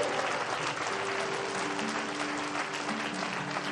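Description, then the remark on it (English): An audience claps steadily for a few seconds, a dense, even wash of many hands with no pauses, loud throughout, while a faint sustained tone hums underneath. “Now give him a big clap offering.”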